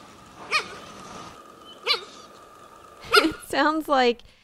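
A cheetah gives five high, squeaky chirps, three spaced out and then two longer wavering ones close together, clear over a faint steady hum.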